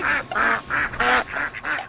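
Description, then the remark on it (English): A duck quacks loudly, about six nasal, raspy quacks in a quick, steady run with barely a pause between them. “Big duck report from Taiwan, because I love a big duck.”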